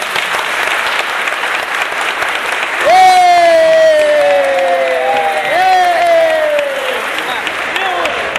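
A crowd claps steadily throughout, and two long, loud falling whoops of cheering rise over the applause midway, the second following the first after a brief gap.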